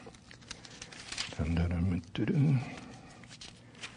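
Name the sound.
bible pages being turned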